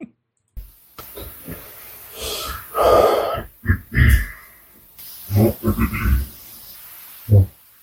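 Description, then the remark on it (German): Someone clears their throat over and over, a series of rough, gravelly rasps and grunts in irregular bursts with short breathy pauses between, fairly loud. “Ich habe nicht mal die Hälfte der Räusperer hier mit reingenommen.”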